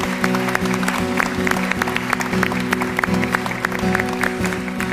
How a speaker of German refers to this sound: Und ich würde um einen sehr, sehr, sehr grossen Applaus bitten